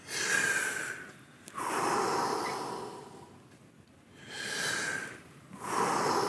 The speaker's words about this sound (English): For that, we do 30 breaths.